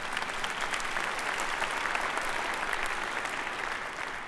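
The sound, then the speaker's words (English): A crowd applauds steadily, a dense wash of many hands clapping at once, sustained and fairly loud for several seconds without any talking over it. “So what he says, yes, you can go ahead and clap.”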